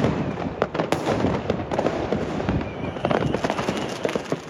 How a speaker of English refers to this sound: And then this is the fireworks from our bedroom window in Schiedam. Yeah.